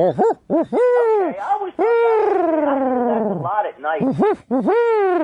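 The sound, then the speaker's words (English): A person imitates a barred owl, giving a loud run of short rising-and-falling hoots, a long drawn-out descending hoo in the middle, then another quick burst of hoots. “That's a barred owl.”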